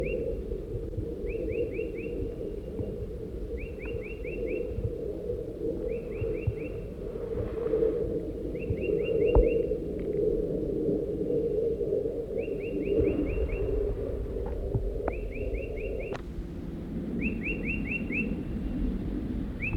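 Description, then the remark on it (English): Crossbill calls from adult birds at their nest around noon: short bursts of high, rapid chirps repeating about every two seconds, steady and fairly soft, over a constant low rumbling hiss. No one speaks. “at the crossbill nest.”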